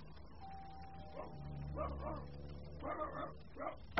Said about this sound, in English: Shut up, dog! Oh, I'm sorry.